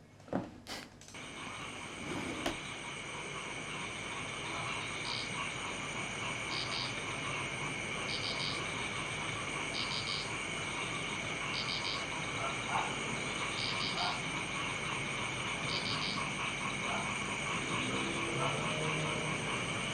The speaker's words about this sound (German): Ich war im Urlaub und da haben Frösche gequakt und das ist ein kleines Quarkkonzert.